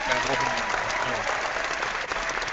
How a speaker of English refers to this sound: Sorry, the crowd went wild.